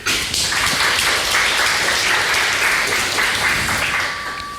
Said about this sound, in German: Ein Applaus.